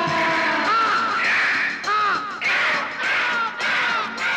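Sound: crow cawing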